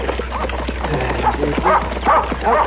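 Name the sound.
dog barking and yipping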